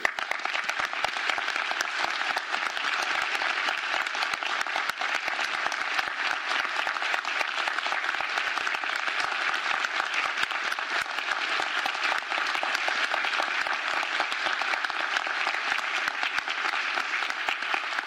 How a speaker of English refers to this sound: Many of the participants are here in the room, many more of them are not, and I think they deserve a huge round of applause.